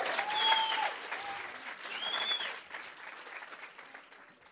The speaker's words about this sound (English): Oh, come on, give God a hand clap. Воздайте славу Богу за это.